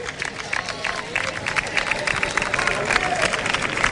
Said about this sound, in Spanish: Y se marcha. Se marcha Diaguara. Aplaudido por la afición del Recre.